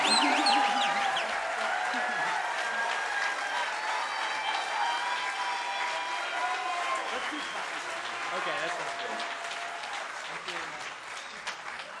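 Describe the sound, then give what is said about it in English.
A crowd applauds the bass player of a band steadily for the whole stretch, a dense wash of many hands clapping at once with scattered cheers and whistles mixed in, holding fairly loud before tapering slightly toward the end. “So let's get a good round of applause.”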